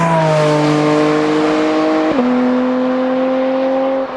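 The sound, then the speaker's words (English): A sports car engine roars loud as it accelerates, its tone climbing steadily, dipping sharply at a quick gear change midway, then pulling hard again with no voices over it. “Listen to that. Come on now. It just knows.”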